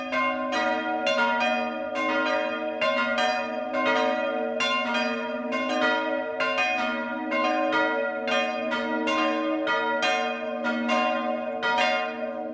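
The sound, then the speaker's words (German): Church bells in the village of Medlitz, Bamberg district, Upper Franconia, Germany, peal continuously for the noon ringing, several bells striking in an overlapping rhythm with a sustained humming resonance beneath, steady with no voices. “Das Mittagsläuten kommt heute aus Medlitz im Landkreis Bamberg.”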